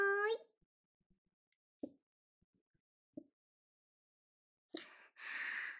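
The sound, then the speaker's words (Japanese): Someone sips sake after a New Year toast: two soft, wet gulps spaced a second apart, framed by a short voiced sound at the start and a breathy, satisfied exhale at the end. “美味しいお酒飲んで、セックスできるなんて、新年から最高。”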